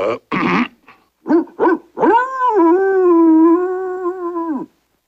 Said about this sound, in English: It sounds like puppies, sir. Of course, puppies.